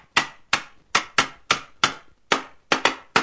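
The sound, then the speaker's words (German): Repeated sharp hammer blows ring out, about ten strikes in quick, slightly uneven rhythm, each a loud bright impact with a short decay, and no talking. “Was hämmerst du eigentlich schon wieder rum?”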